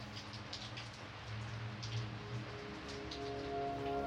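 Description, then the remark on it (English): Steady rain falling, a continuous soft patter of drops on a surface with scattered brighter splashes, fairly quiet and even throughout, with no voices. “But what haunts me in the dead hours, hours so early, you feel like the only thing in existence is the rain.”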